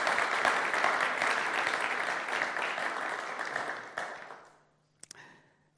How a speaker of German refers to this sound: Genau, lasst uns noch mal einen kräftigen Applaus den beiden geben.